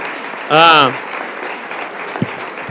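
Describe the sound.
Steady, dense applause from a crowd for the hereus and pubilles representing the pubillatge of Sitges and the Festa de la Barana fills the whole clip, with a brief loud cheering voice rising above the clapping near the start.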